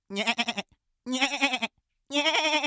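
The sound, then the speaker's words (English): A goat bleats three times, each call a loud, wavering cry lasting about half a second, separated by short silent gaps. “You've manifested your soul into a goat!”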